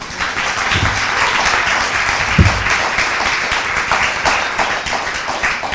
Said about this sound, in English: Thank you. So give Pratt another round of applause.